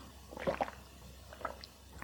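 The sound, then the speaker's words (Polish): Someone takes a sip of water, with a couple of soft wet slurping and swallowing sounds in two short bursts against a quiet background. “Czekajcie, łyczek wody.”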